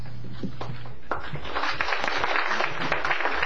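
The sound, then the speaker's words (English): Scattered claps quickly swell into a steady wash of audience applause, many hands clapping together in a dense, even crackle that holds at a moderate level to the end. “Well, thanks for the applause, but frankly, my applause should start out with going to all of you, and I really mean that.”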